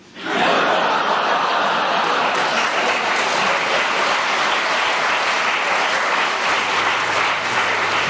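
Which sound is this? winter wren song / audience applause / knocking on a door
audience applause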